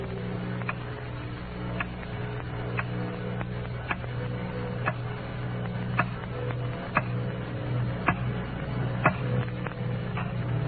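A clock ticks steadily, roughly once per second, late at night in a dark room, its crisp clicks standing out over a constant low hum, with no voices.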